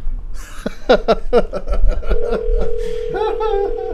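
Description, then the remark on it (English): A steady, unbroken mid-pitched telephone dial tone for a scheduled phone call hums for the last couple of seconds, beginning just after a burst of rhythmic chuckling laughter. “Yeah, no, come on, we got a phone call scheduled.”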